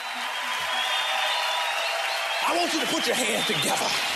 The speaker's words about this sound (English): And welcome to the stage. Big round of applause.